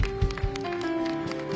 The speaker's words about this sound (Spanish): Vamos a darle este aplauso más fuerte al Señor.